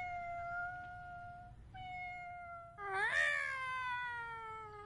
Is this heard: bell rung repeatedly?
no